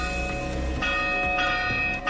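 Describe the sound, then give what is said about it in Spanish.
Church bells in municipalities of Castilla-La Mancha peal loudly and continuously as an emergency call, with new strikes landing about every half second over a ringing wash of sustained overtones, heard alone without any voices. “Hoy el campanario de muchos municipios de Castilla-La Mancha han tocado sus campanas como llamada de emergencia ante la falta de población en las zonas rurales.”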